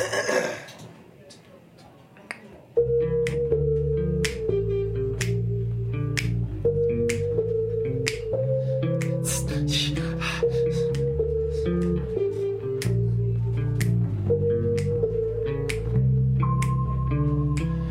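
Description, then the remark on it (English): Steady rhythmic hand clapping by a group keeps time over a song played on keyboard, bass and French horn, with sustained horn-like tones; the sharp claps are clearly audible throughout after a quiet opening. “we're all going to be clapping and singing.”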